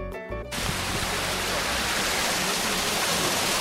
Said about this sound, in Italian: Che cos'è questo mulino? Questo è l'ultimo e unico mulino ad acqua rimasto nel territorio di Teglio.